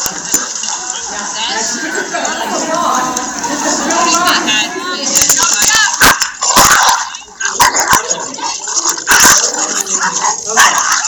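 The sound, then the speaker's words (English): A dog growls and whines in low, rumbling stretches, then breaks into a run of sharp, loud barks, some spaced apart and others in quick bursts. “you know, most dogs, if the Spitz had gone, they'd go, oh, okay, I'm sorry.”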